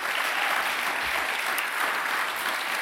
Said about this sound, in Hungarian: És nagy tapsot szeretnék kérni az uraknak.